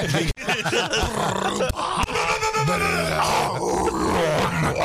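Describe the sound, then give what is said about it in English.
A man's voice lets out a harsh, growling metal-style scream with no instruments, a continuous rough roar lasting several seconds with gritty, strained pitch bends. “You're trying to scream because you can't sing.”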